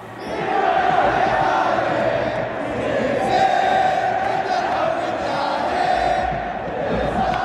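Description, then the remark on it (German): A large crowd of mostly young football fans sings together at the Riyadh derby, Al-Hilal against Al-Nasser, in King Fahad Stadium, Saudi Arabia, with more than 50,000 spectators. A loud, steady wall of massed voices holds a droning chant-like melody for the whole stretch without pause. “Die überwiegend jungen Fans singen, schwenken Fahnen”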